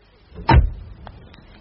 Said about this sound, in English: A lovely sound, that door.